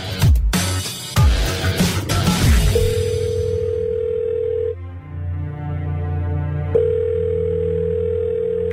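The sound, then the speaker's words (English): A steady telephone dial tone sounds in two long stretches, a few seconds each, with a short gap between, following an opening burst of loud noisy sound effects, as a phone call is placed to an amateur sportsman's mum. No one speaks. “It's time for another phone call of an amateur sportsman telling their mum they're debuting.”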